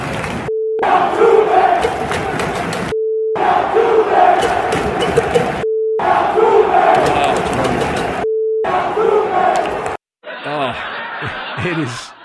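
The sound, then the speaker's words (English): A loud crowd of Yankee Stadium fans at a baseball game chants in four roaring bursts of about two seconds each. A short, steady mid-pitched beep separates the bursts, and a quieter voice follows at the end. “Dusty admitted that the fans of Yankee Stadium, well, they were heard, as Warner Wolf would say.”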